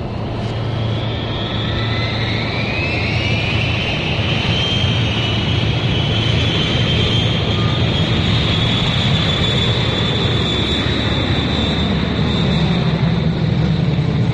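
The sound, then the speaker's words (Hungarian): The engines of a Malév Tupolev Tu-154 jet airliner, flight MA-240 from Budapest to Beirut, roar steadily and loudly, a high turbine whine gliding upward over the deep rumble for the whole stretch, with no voices. “a Malév MA-240-es járata, egy TU-154-es repülőgép.”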